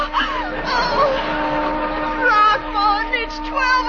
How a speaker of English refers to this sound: Listen, a whistle. Oh, it's the old tack factory.